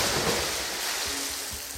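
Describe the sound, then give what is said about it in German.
A splash of someone jumping into water at a swimming pool, heard as a loud, steady rush of churning water without a distinct separate impact, with no voices. “Der Sprung ins Wasser steht für die Zahl 1.”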